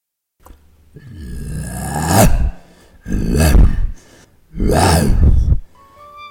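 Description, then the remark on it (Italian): A man, an actor playing a lion in an Italian-language stage performance of the Pyramus and Thisbe (Tisbe) scene, imitates a lion's roar three times in a row, each a loud, rough, growling bellow that swells and cuts off, with short pauses between them. “Ben ruggito, leone, molto bravo.”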